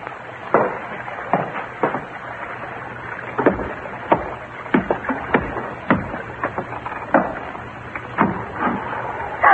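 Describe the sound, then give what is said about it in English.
A small boat bumps and knocks against a hull as it ties up alongside: irregular hollow wooden thuds and clunks over a low steady background with no talking. “Yeah, small boat just tied up alongside.”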